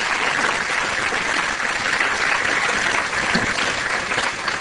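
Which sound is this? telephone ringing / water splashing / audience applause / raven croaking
audience applause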